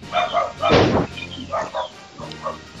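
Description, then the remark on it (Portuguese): A dog barks repeatedly in short, uneven bursts, fairly loud, with a few yelping barks running together before a brief pause and more barking. “E esse cachorro maroto?”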